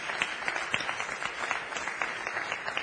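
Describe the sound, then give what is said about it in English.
A church audience applauds steadily, many hands clapping together in a dense, continuous wash of sound with scattered sharper claps, at moderate loudness and with no talking. “Let's give us all a round of applause.”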